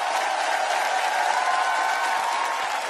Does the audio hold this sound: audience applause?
yes